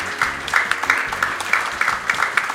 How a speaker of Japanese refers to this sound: 大きな拍手お願いいたします。